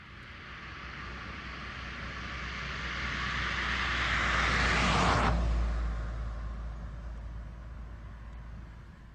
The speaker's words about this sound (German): Vor allem in der Westschweiz werden zurzeit lärmarme Straßenbeläge gebaut und getestet. Das Bundesamt für Umwelt, BAFU, hat Aufnahmen davon ins Internet gestellt. Der Übergang des Autos vom Normalbelag zum lärmarmen Belag ist deutlich zu hören.